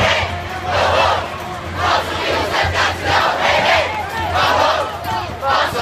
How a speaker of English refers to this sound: And a roar from the streets, a people's march for action on climate change worldwide and here in New York.